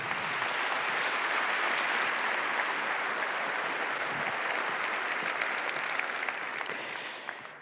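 An audience applauds steadily for several seconds to welcome a speaker to a talk on IT in agriculture. It is a dense, even wash of clapping that holds its level throughout and tapers off slightly at the very end, with no voices over it.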